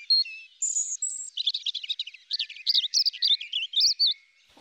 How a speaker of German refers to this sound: Richtig ist, dass Vogeldamen in den nördlichen Ländern Europas, wie bei uns in Deutschland, selten singen. Eine Ausnahme gibt es da allerdings, das Rotkehlchen. Bei ihnen schmettern auch die Weibchen tolle Arien.